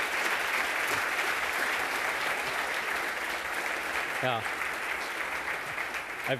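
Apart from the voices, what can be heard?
audience applause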